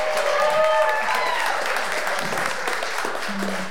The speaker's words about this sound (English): I want to invite Zach to the stage. Give Zach a big round of applause.